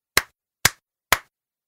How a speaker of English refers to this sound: I know. We can clap.